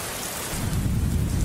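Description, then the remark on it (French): Steady rain hisses across the whole clip while a deep rumble of thunder swells in about halfway through and keeps rolling to the end. No voices are present. “La pluie, c'est le calvaire pour les motocyclistes et les piétons sur les grandes artères et dans les ruelles.”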